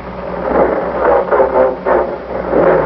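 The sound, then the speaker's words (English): An old car engine runs steadily as the car is driven up to a railroad crossing, a rough, throbbing rumble with a low hum that swells in uneven pulses. No voices are heard. “I do wish we could get a new car. Oh, I hate to drive this one.”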